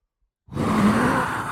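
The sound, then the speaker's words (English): A voice imitates a rushing wind, producing a sustained breathy whoosh that starts abruptly after a short silence and holds steady and fairly loud to the end. “And then, whoosh, whoosh, I can't do it loud enough.”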